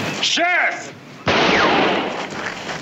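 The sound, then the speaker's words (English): A voice lets out a rising and falling whoop, then a single sharp, loud gunshot cracks out, its noisy rumble lingering and slowly fading over the next second and a half. “I never seen that shooting!”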